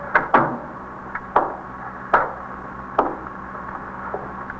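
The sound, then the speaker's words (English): A door being closed, heard as a series of sharp wooden clunks and knocks spread over a few seconds, with no voices. “Should I close the door? Yes, please.”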